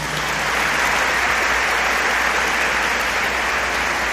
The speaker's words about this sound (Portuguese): Aleluia. Pode aplaudir Jesus.